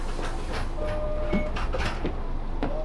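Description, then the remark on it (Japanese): A Japanese city bus bound for Tenjin closes its sliding door at a stop before departing, over a steady engine rumble, with several short clunks and clacks spread across a few seconds and a faint beeping tone in the background. “ドアにご注意ください。”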